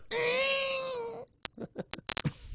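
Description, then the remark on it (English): A person imitating a baby's cry as a sound effect: one loud, drawn-out wail lasting about a second, then a few sharp clicks and short, broken whimpering sounds that trail off. “Baby sound effects.”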